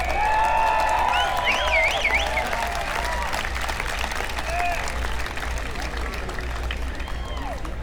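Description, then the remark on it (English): A crowd applauds steadily and loudly as performers come up on stage, with shrill whistles and scattered cheers rising over the clapping, which holds strong throughout before easing slightly toward the end. “Give a big hand as they come up on stage”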